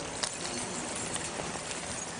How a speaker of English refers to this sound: I'd like you to pull out your keys. Do I have keys with you? I have keys somewhere here. All right, let's hear your keys.